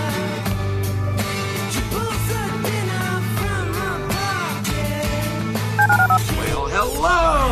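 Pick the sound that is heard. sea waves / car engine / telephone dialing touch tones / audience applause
telephone dialing touch tones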